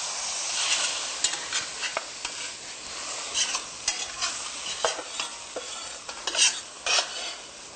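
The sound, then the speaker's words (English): Steady, bright sizzling of grated ginger and garlic frying in a sauté pan, with irregular sharp crackles and pops rising above the hiss as the food is stirred, no voices present. “So we'll just take some of our ginger and we'll grate that right into our saute pan. We'll add our garlic now.”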